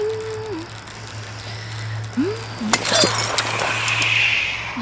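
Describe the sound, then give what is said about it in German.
Brittle clinks and crunches of broken glass shards, a short burst of gritty crackling near the middle, fairly clear over a low steady hum with faint tonal sounds. “Welches Arschloch hat denn ausgerechnet hier Scherben liegen lassen?”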